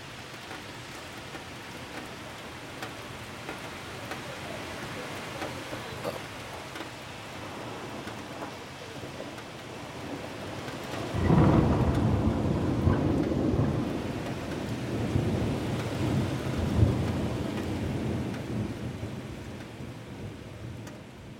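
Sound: heavy rain with thunder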